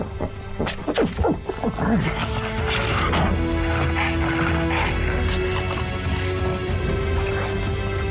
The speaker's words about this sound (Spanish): Los espeluznantes sonidos del videojuego Halo Infinite están hechos por un pop. Hyosa es el pequeño perro que ayuda al equipo de arte para hacer ruidos alienígenas.